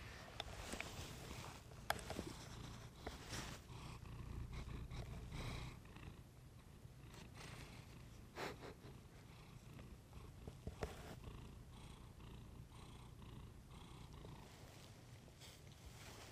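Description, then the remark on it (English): A male cat purrs continuously while snuggled with a person in bed, a low steady rumble with rhythmic pulsing, accompanied by occasional soft rustling and brief clicks. “You hear him purr.”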